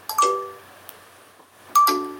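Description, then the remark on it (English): A smartphone chime sounds twice as the phone begins restarting for a system update, about a second and a half apart, each a clear bright electronic tone that rings out and fades, with near silence between. “my phone is about to restart”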